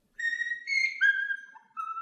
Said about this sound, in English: So I've decided instead to play the sound of a lovely bird singing, my own Quaker parrot, Satchel. Take it away, Satchel.